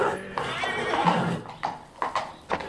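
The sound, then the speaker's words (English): A horse gives a loud, quavering whinny lasting about a second, followed by a few separate hoof clops as horses are brought up to the starting post for a race. No one speaks. “Okay, let's get our horses up to, the post.”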